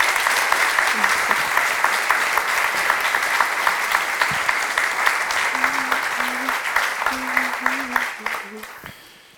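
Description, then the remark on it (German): An audience claps steadily for about nine seconds, a dense, even patter of many hands that fades away at the end. A few faint voices sound beneath it. “Einen herzlichen Applaus.”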